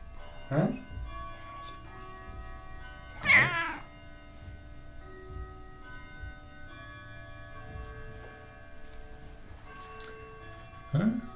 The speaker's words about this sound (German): Und sie schwätzelt. Sie ist eine schwätzende Katze.